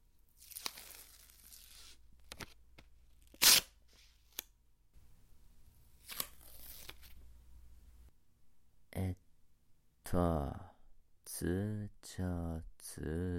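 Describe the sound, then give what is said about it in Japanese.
Packing tape is ripped off the roll in a couple of long, raspy pulls with a sharp snap, to tape a sleeping person's mouth shut, then a person starts talking. “とりあえず、ガムテープで口塞いどこ。”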